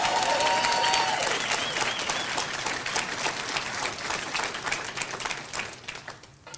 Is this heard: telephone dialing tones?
no